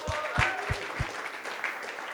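An audience applauds a speaker steadily, a dense wash of many hands clapping at moderate volume, with a few sharper low thumps near the start and no clear speech over it.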